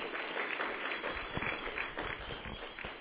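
An audience applauding: steady, dense clapping from many hands, sustained at an even level throughout with no voices over it.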